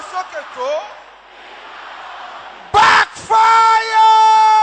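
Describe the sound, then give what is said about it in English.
A crowd of voices in prayer suddenly erupts into loud, sustained shouting after a few seconds of quieter vocal sounds, the yelling forceful in repeated bursts. “I hear you shouting this loud e gbo ke ki gbele yi this voice is not loud enough.”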